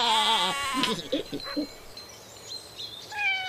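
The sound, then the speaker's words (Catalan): A lamb lets out one loud, quavering bleat at the start, followed by softer scattered bleats and a thin high cry near the end. “Els xais fan... Bé! Bé!”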